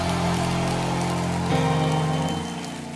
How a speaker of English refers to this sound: Come on, clap your hands and give the Lord a shout of praise.